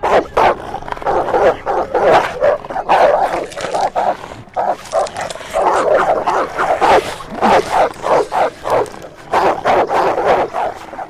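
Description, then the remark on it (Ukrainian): A pack of dogs being let loose barks and yelps in rapid overlapping bursts, loud, continuing almost without pause throughout, with a few higher whimpering yips mixed in. “Спускайте собак.”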